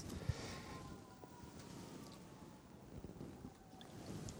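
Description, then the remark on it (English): Emergency vehicle sirens pass, wailing faintly and steadily, half-buried under heavy outdoor wind rumble and low traffic-like noise in a busy place, with no one speaking. “There goes some more sirens.”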